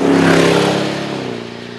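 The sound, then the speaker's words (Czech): A long-wheelbase BMW 7 Series with a classic 450-horsepower V8 petrol engine revs loudly, a deep harmonic roar that peaks early and then settles into a slowly fading rumble, with no voices present. “Takže benzín, klasický osmivál, 450 koní.”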